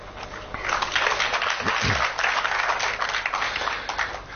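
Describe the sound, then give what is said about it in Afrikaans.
An audience at a reading of short poems breaks into steady applause, a dense crackle of many hands clapping at once that swells quickly and holds at an even, fairly loud level, with a brief low murmur of voices underneath. “Julle hoef nie dan elkeen te klap nie.”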